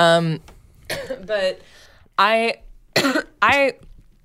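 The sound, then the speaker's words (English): A run of about six short, dry coughs from a person, fairly loud, each a brief throaty burst separated by brief pauses, with no talking in between. “Was that a dry cough?”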